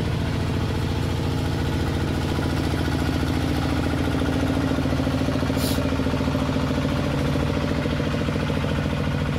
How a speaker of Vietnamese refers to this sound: Để chờ cho cái xe máy cày họ đi qua.